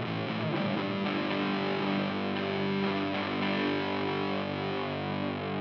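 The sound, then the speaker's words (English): A heavily distorted electric guitar, with the distortion turned all the way up and reverb dialed in, rings out with a wash of reverb, sustained chords blurring into a dense, roomy tail. Loud, no voices over it. “Dial in some reverb.”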